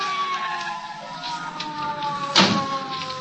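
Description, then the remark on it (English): A police car's siren holds steady and loud, then a sudden harsh burst cuts in near the end as the car screeches up to a stop, with the siren still sounding. “I was shaking the buzz out of my ears and scrambling to my feet when the police car screeched up to a stop.”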